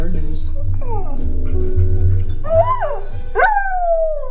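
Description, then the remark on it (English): A dog, Jake, belonging to Russia and Ukraine expert Nina Jankowicz in Washington, D.C., howls along to the show's theme music, its voice sliding up and then tapering down in long wavering wails that grow stronger near the end, over a steady musical backing. “Russia and Ukraine expert Nina Jankowicz tweeted about her dog, Jake, who cannot help but sing along to our theme song at the top of every hour.”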